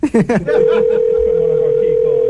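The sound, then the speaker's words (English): A telephone line rings out unanswered on the caller's end, a single steady electronic ringback tone holding for nearly two seconds, preceded by a brief burst of voices. “They're not answering.”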